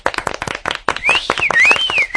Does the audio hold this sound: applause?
yes